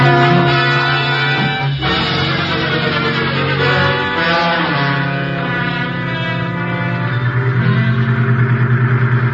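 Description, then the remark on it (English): Vehicle engines drone steadily, a loud continuous motor rumble with a brief shift in pitch partway through, as a truck leads the way with a taxi cab following behind. No one speaks. “You lead the way in your truck, Mikan. We'll follow in the cab.”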